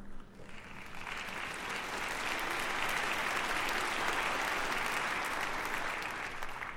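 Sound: audience applause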